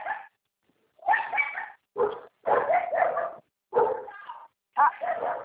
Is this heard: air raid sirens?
no